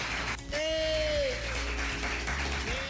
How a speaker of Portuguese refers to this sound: Olha, eu peço aqui uma salva de palmas, meus amigos, para o Diego Dias, aniversariante de hoje, de Lajeado.